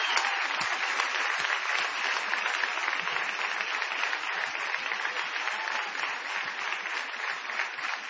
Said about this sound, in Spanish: Señores, vamos a presentar inmediatamente, y aprovechando el envión de los aplausos recientes, al querido Patricio Barton.